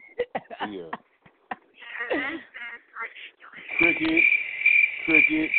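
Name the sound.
crickets chirping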